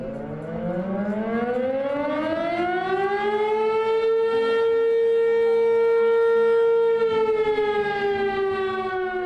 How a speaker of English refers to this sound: The deafening siren blares across the Carson Valley. For some people here, it's a reminder of the area's racial past.